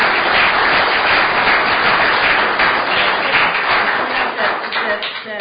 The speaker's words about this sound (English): It's a terrific bond sale, and I again just want to thank all of the staff, all of your team, for doing a great job on today. So let's give them all a big round of applause.